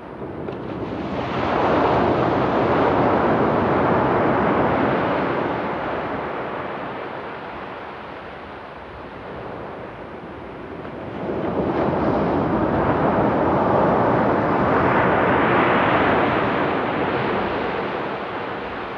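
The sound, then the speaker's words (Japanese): Gentle ocean waves wash onto a sandy shore, a beach restored by disaster recovery works, in two slow, broad surges, swelling and receding with a soft hiss, steady, with no voices. “とても穏やかでゆったりとしたこの波は、いいことも悪いこともすべて受け入れている、そんな音にさえ聞こえます。”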